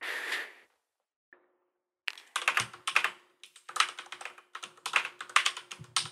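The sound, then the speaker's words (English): A brief whoosh of noise, a pause, then a rapid, uneven run of sharp keyboard clicks as someone types a Google search on a computer, moderately loud with no voices. “I actually don't know. I need to Google that.”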